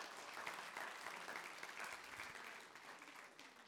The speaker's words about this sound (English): Can we give Jesus a clap offering of praise?